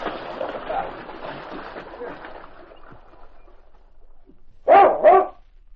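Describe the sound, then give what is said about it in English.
A dog, King, barks twice in quick succession, sharp and fairly loud, standing on top of a distant hill and barking in summons as Sergeant Preston rides up, after several seconds of rushing, splashing water noise that fades to near quiet. “At that moment, King stood on top of the distant hill, barking in summons as Sergeant Preston rode up to him.”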